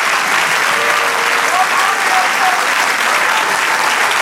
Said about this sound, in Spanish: Gloria a Dios. Siga aplaudiendo. Dele gloria.